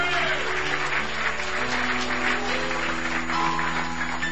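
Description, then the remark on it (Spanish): Loud, sustained applause to God from a large church audience fills the whole clip, a dense steady clatter of many hands with a low held tone underneath and no clear talking. “Dale el aplauso fuerte a tu Dios.”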